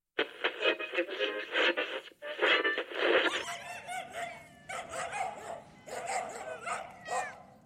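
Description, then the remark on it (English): A dog barks and yips repeatedly in loud bursts, with short gaps between volleys and some whining, harmonic yelps toward the end. “Next up is some doggy troubles.”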